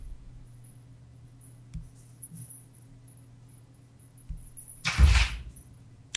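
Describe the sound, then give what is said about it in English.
A dog bumps and scrapes against a door, with a few soft knocks early on and a louder burst of rattling, thudding contact near the end over a low steady hum. “Sorry, my dog's banging at the door, okay.”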